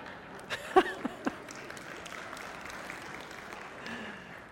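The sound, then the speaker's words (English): An audience at a church service sermon claps, with a few sharp, loud claps standing out near the start over a steady wash of softer clapping and room noise that carries on to the end. “I noticed some of you weren't clapping.”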